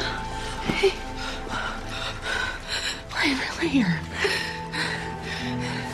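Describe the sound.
Heavy, ragged panting from a wet person sitting on the floor of an RV after being pulled back up into it, quick breaths repeating in an uneven rhythm, with a person briefly speaking over the breathing.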